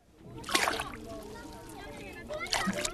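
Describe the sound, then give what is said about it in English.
Water sloshes and splashes in two distinct scoops, one early and one near the end, while faint voices murmur in the background. Women and children standing waist-deep in pits in a dried-up watering hole scoop water into containers one cup at a time, at the Jaman refugee camp, Upper Nile state, South Sudan. “Standing waist-deep, they scoop it from pits and fill their containers, one cup at a time.”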